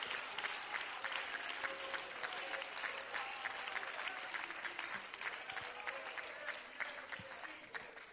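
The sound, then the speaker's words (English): An audience at a worship service claps hands steadily to the Lord, a dense wash of many overlapping claps with faint crowd noise and scattered voices underneath, sustained evenly throughout. “Come on, somebody clap your hands.”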